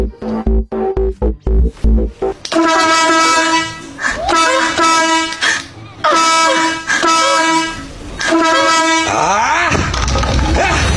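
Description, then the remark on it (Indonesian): A car horn blares in a series of long, loud honks, one after another with brief gaps, after a few quick choppy bursts at the start. “Tapi jika dimasuki sesuatu, akan mengeluarkan bunyi klakson.”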